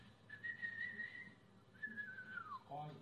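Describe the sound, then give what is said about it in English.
A person whistles two drawn-out tones, the first held steady and the second sliding downward, imitating the whistling of a dove's wings as it begins and ends flight, with low murmuring voices underneath. “You know that a dove, when it begins flight and ends flight, it's always with a whistle.”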